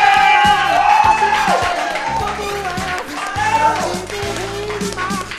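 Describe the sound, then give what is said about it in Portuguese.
A crowd applauds and cheers loudly and steadily for its own attendance, with dense clapping mixed with whoops and shouting voices that rise and fall throughout. “E nesse momento, vamos dar uma salva de palmas pela presença de vocês também.”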